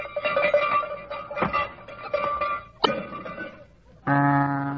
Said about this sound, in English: Sleigh bells jangled.